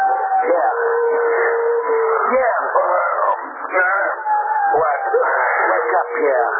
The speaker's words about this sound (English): Suddenly, the mournful howling of frightened dogs shatters the stillness of the night.